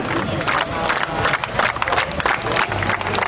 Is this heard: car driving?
no